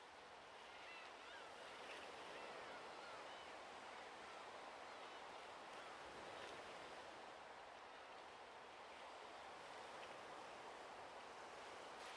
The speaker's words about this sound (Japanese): もう少しだけ、波の音を聞きましょう。